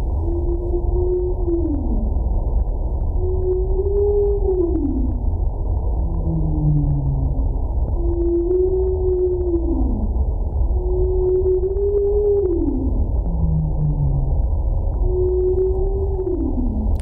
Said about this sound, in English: Would you like to hear what they recorded? This is the actual sound of the humpback whale calling, call to arms, if you like, in the seas around New York City.